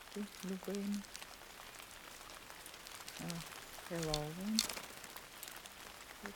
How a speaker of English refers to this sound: Outside, rain falls on bare trees.